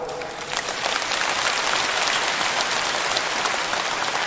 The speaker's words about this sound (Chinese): 鼓掌的人有一半没听懂，所以师父只能给你们稍加解释。